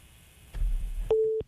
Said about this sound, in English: Why is there a beeping noise? Oh, that's crazy. Your phone just made the craziest noise. Oh, it's that's still not me. That's you. That's not me. Oh, my God. That's not me. Oh, it's because we have another caller.